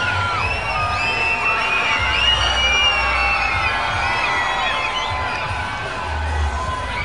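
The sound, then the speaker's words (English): A large baseball stadium crowd in Amarillo cheers and shouts continuously, with many overlapping high whoops and yells rising above a steady roar, holding loud throughout the seven seconds. “I've got the noise meter going here in Amarillo. Getting fired up.”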